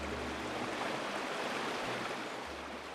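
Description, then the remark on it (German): The Danube rushes steadily under the stone bridge in Regensburg, Upper Palatinate, at the northern bridgehead in Stadt am Hof: a dense, even roar of flowing water with a low rumbling hum beneath it, continuous and unbroken with no voices. “Gleichmäßig und kraftvoll fließt die Donau unter der steinernen Brücke hindurch.”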